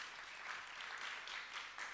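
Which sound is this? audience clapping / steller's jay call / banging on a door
audience clapping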